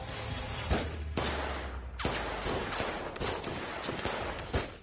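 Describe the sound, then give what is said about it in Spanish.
A rapid, irregular volley of pistol shots fired at a door, sharp loud cracks following one another over several seconds with a rumbling din between them and no voices. “Se pusieron a disparar con las pistolas a la puerta para que la abrieran, pero nadie respondía.”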